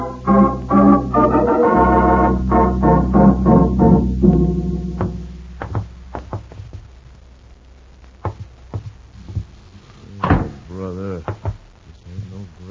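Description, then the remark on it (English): A door is opened after a man speaks: a series of sharp knocks and clicks from the latch and handle, then a brief rising creak and a few more taps. “Move ahead of us and open the door.”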